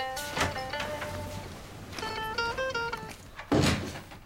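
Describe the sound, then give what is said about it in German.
A door opens with a soft thud, its hinges creaking in drawn-out tones, then swings shut with a solid knock a few seconds later. Fairly quiet, with no one speaking. “Daniel geht zur Tür.”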